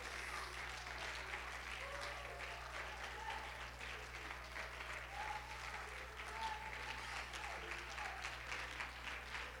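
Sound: audience clapping hands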